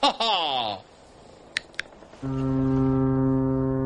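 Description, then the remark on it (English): A deep, loud boat horn from a pizza boat on the ocean blares in one long, steady blast near the end, following a brief voice at the start and two short sharp taps in the quiet between. “It's the pizza boat.”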